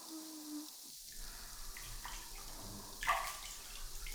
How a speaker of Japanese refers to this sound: ではそろそろ泡流していきましょうか。